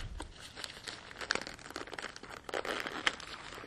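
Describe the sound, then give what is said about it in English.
A bag's zipper is drawn closed in several uneven, ratcheting pulls as it is zipped back up after items are packed inside, mixed with crinkly rustling of the bag's material, and no voices. “And I'm going to zip this back up.”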